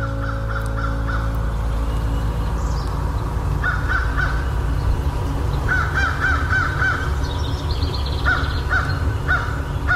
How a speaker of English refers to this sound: Mr. Crow, I know you've got something to say to me.